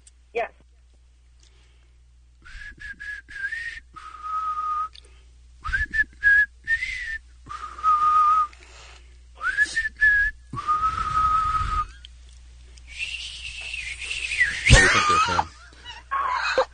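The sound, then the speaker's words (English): A person whistles a tune, clear pitched phrases rising and falling in short bursts with brief pauses between them, one high note straining near the end. “All right, I really hope he can whistle really well today.”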